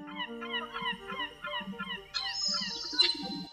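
Seagulls flying over a city cry out again and again in wavering, wailing calls over a steady low rumble, with a thinner, higher-pitched cry joining toward the end.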